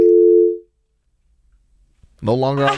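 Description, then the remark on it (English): A steady, loud telephone dial tone on a call-in phone line after the caller on line one disconnects hums for about half a second and cuts off, followed by a pause of near silence before a man starts speaking. “No longer on line one, I guess. I think that says enough.”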